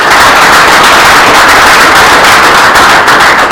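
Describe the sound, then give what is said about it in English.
An audience applauds steadily, a loud, dense crackle of many hands clapping at once that holds at the same level for several seconds, with no voices over it. “Let's give her a round of applause anyway.”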